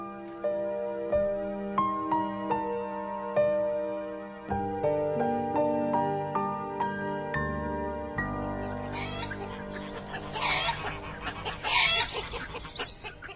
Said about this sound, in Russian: На следующий день ее очень рано разбудила кудахтанье кур во дворе, которые прямо-таки устроили утренний концерт.